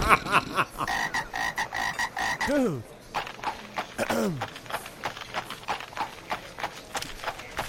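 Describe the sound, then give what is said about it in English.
A horse sound effect: a couple of loud, descending whinnies followed by a steady run of sharp hoof clip-clops, with a sustained horn-like tone at the start. “Horn horse engine.”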